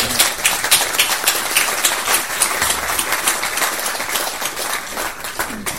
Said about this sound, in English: I think you need to join me in applauding Right Honourable Mitchell again. That was 105%.